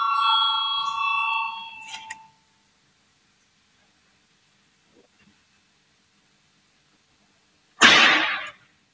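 A parliamentary voting bell rings loudly for about two seconds with a steady, bright electronic tone, calling a vote on Minister Pūce's proposal number 120, followed by several seconds of near silence and then a short, harsh burst of noise.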